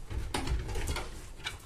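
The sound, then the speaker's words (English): An unlocked door being opened by turning its knob, with a few sharp clicks and rattles of the handle spread over a second or so against a low rumbling background, moderately loud. “Hey, can you open that door for me?”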